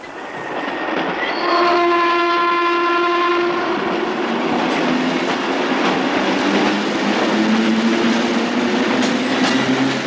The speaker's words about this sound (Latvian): Šūpošanās virs ūdens, redzot, kā satiekās divi vilcieni uz dzelzceļa tilta, kas, manuprāt, ir vienkārši kāds fenomenāls kadrs.